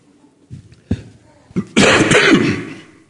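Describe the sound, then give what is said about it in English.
A harsh coughing fit from a person with a terrible cough: a few sharp coughs spaced apart, then a louder, raspy burst that drags on for nearly a second before fading. No speech. “And I'm desperate for water because I was with my grandchildren and I have a terrible cough.”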